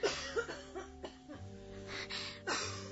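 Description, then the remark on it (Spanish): A mother's harsh, heavy cough, which keeps her from sleeping, repeats in several bursts over a few seconds, fairly loud, with rough, chesty rasping between the fits and no talking. “Esa tos mala no la deja dormir.”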